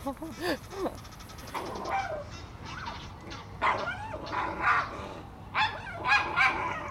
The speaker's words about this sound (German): Wir haben jetzt einen unangeleinten Hund kommen sehen, einen mittelgroßen Hund.